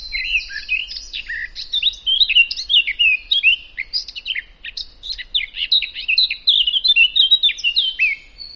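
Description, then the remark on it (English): A greyish-brown songbird, males with a black cap and females with a rusty-brown head, sings a rapid, high-pitched warbling song like a speeded-up blackbird, a continuous stream of quick twittering phrases and trills heard clearly, with no talking. “And they have a very high-pitched, quite fast song. It almost sounds a bit like a blackbird speeded up.”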